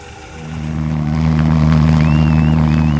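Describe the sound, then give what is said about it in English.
A pulse jet engine, an engine with no moving parts, roars to life at Anchorage's first Mini Maker Fair in Alaska and holds a loud, steady, buzzing drone with a deep harmonic throb, while a thin whistling tone wavers above it near the end. “A pulse engine is an engine with no moving parts, built entirely from the physical principle of thermodynamics, if I understand it correctly.”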